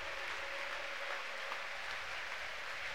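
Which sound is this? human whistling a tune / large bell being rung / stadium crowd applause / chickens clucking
stadium crowd applause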